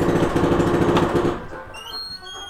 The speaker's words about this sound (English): Oh. There's a jackhammer.